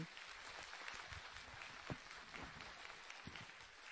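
A church audience applauds a speaker's testimony and message, a dense wash of many hands clapping together at an even level throughout, with a few sharper individual claps standing out.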